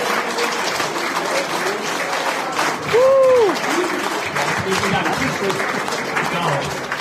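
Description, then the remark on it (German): A crowd applauds steadily, a dense wash of clapping that fills the whole clip, with a brief rising-and-falling tonal whoop or cheer cutting through around the middle. “Ein Applaus für dich.”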